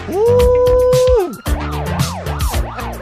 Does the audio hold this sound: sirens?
yes